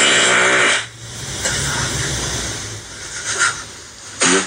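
A low, buzzy fart lasts under a second at the start, followed by a steady airy hiss that swells briefly near the end. It sounds like a played-back recording, with no one talking.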